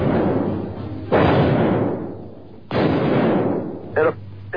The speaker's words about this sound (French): Au même moment, un journaliste d'une radio locale entend et enregistre lui aussi les coups de feu qui vont tuer un des présidents les plus célèbres de l'histoire des États-Unis. C'était il y a 40 ans à un jour près, le 22 novembre 1963.